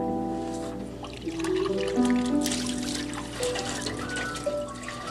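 water running

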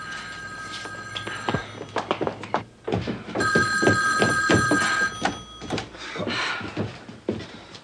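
telephone ringing

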